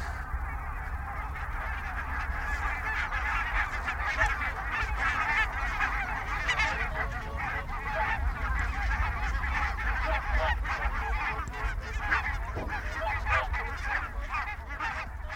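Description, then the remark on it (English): A dense chorus of pink-footed geese honking in flight, many overlapping calls running continuously and fairly loud throughout, with a low steady rumble beneath and no talking. “My last Dumfries goose was on the 10th of April, a small skein of 10 pink feet, low in the mid-afternoon.”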